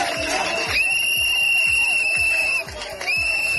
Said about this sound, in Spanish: Pitos, abucheos, gritos de fuera, fuera